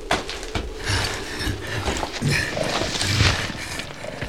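A horse clatters to a halt with snorting and creaking, rattling tack, followed by the rider jumping down from the saddle, all fairly loud with no one talking.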